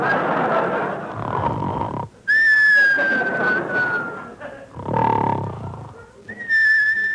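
Loud, sustained high whistles, each held steady for a second or two, alternate with rough, rumbling rasps like heavy snoring, in a tight back-and-forth pattern, from a sleeping man.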